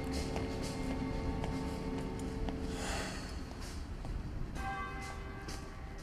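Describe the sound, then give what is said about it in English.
Church bells ring out in a dense, overlapping peal, their clanging tones layered continuously over a noisy, bustling background with a low rumble throughout. “Hearing the bells, Gisborn turns and runs back through the cloisters.”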